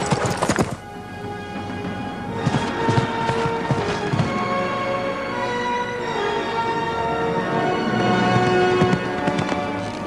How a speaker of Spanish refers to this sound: El mago espolea a su caballo.